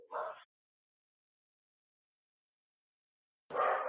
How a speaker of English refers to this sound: Oh, see, I warned you guys about the dogs. It's happening. Yeah. There's a plumber coming to the house.